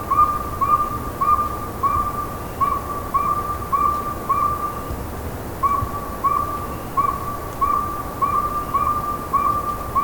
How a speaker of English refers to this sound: The northern saw-whet owl is a very tiny owl, but it's very common. It's one of the most common owls in the eastern forests.